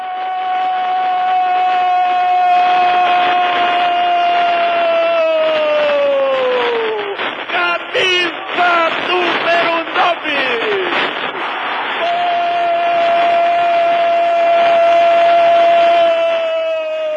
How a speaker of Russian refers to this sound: Вот прорыв ворот Фламенго, удар. И вот, наконец, ликующий и торжествующий вопль победы.